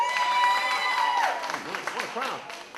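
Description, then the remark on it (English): A lively crowd cheers and applauds, with scattered whoops and shouting voices rising over steady clapping. The noise is loud, filling the whole few seconds. “All right, go completely Rusty Bee crazy for these!”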